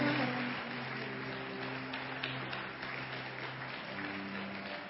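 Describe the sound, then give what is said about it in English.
Steady, sustained applause from a crowd clapping to celebrate people as they come, a dense wash of many hands clapping at an even level throughout, with a low sustained musical hum underneath. “Don't be tired of clapping.”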